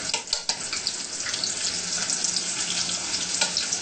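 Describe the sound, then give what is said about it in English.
Steady watery swishing and trickling as rice paper is soaked in water to soften it, with a few soft taps and splashes near the start and again toward the end. No one speaks. “You can also use cold water to soak or to soften the rice paper.”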